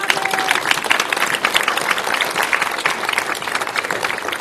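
A group of people applauds steadily, a dense, even patter of many hands clapping at once for several seconds, with a few cheers mixed in.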